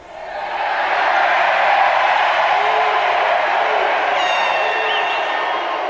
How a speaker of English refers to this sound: And then finally, though, listen to when they erupt in applause, what he says that causes them to cheer loudly.